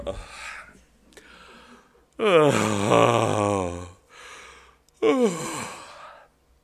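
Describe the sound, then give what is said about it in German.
A loud, drawn-out human yawn: a breathy intake, then a long voiced, groaning exhale, followed by a shorter second yawning sound. “Und wenn ich zu Hause so laut gähne, was ab und zu doch mal passiert,”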